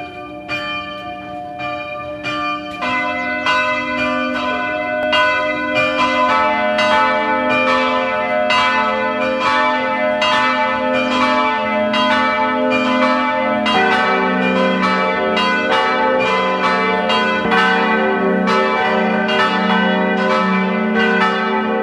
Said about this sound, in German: Es ist 12 Uhr. Sie hören die Glocken der Pfarrkirche Pack in der Steiermark.